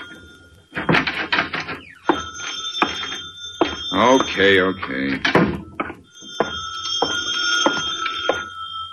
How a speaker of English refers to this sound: Uh-oh, the phone.